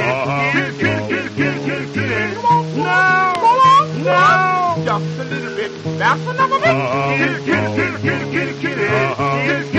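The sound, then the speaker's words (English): Several drawn-out, rising and falling cat meows cluster near the middle, loud, over a steady musical accompaniment with sung vocals running throughout. “for you can hear her calling cat at any time of night.”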